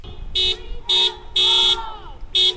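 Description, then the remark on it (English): Several loud car horn blasts honk in an irregular pattern, some short and one held longer, from protesters in a car rally in front of the sheriff's department in Albuquerque, New Mexico, chanting "Bring them home" to demand the release of prisoners, over a low murmur of crowd noise and traffic. “Protesters socially distanced themselves inside their cars, some wearing masks, some hanging signs from car windows, everyone honking and chanting, "Bring them home," in front of the sheriff's department in Albuquerque on Friday.”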